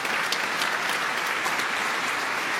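Steady audience applause, a dense wash of many hands clapping at an even, fairly loud level throughout, with no voices standing out.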